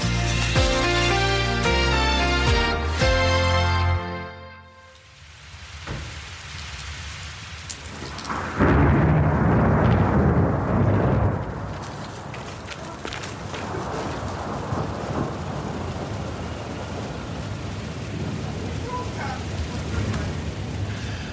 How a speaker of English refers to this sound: We've got thunder and lightning, so if this programme disappears, I'm not joking here,